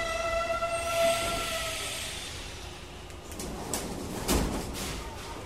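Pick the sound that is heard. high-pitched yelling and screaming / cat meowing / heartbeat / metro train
metro train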